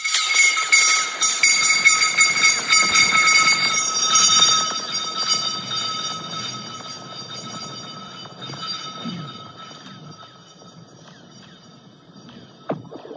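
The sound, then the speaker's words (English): Three stones dropped down a long pipe in the ground clatter, producing a loud, ringing, whistling metallic whir that slowly fades over several seconds. Near the end comes a brief, sharp splash as the stones come out of the pipe, far away, into a body of water. “Somebody drops three stones down a pipe, and at the end, you'll hear the stones come out of the pipe and crash into a body of water.”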